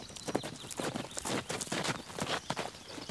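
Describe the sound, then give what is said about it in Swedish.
Horse hooves clip-clop in a steady, brisk rhythm as a woman rides the horse across fields, each hoofbeat a sharp knock, fairly loud, with no one talking over them. “Hon flyger fram över fälten med en perfekt hållning på hästryggen.”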